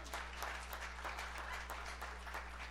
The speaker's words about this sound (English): So it's good to see so many wonderful faces, and happy Father's Day to all of the fathers in the house. Yeah, let's give them a clap. Come on.